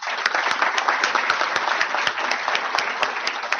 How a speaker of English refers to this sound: It gives me great pleasure to introduce our candidates, and please join me in another round of applause for them.